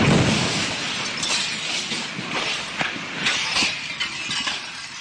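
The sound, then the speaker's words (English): Glass shatters and keeps crashing and tinkling for several seconds, a dense, bright spray of breaking shards with scattered sharp impacts, fairly loud, no voices. “That is the closest approximation to what I heard. It just shattered. It exploded.”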